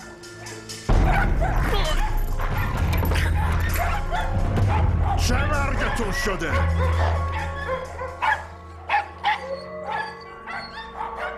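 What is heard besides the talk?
dogs barking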